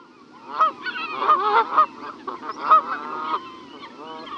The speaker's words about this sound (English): The Canada goose is our largest goose and maybe our most familiar.